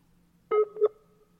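telephone dialing tones

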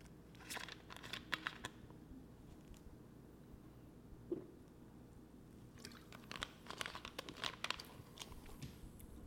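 sipping a diet soda

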